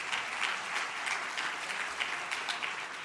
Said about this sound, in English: So please, a round of applause to Sutherland for their help.